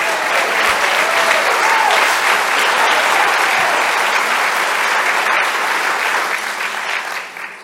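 A crowd of people claps steadily, a dense, sustained wash of applause that stays loud for several seconds before starting to thin out at the end.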